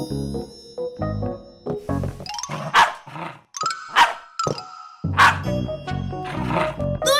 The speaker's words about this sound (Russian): Просто кусачка всегда лает, когда видит фиксика. Это у нее рефлекс такой.